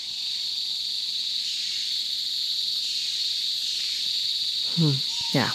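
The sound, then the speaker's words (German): Ambience of undisturbed lowland rainforest in the Danum Valley: a steady, shrill insect drone rings continuously over a soft background hush, with a couple of brief chirping calls near the end. “Und im Danum Valley geht es darum, unberührten Tiefland-Regenwald detailliert zu studieren.”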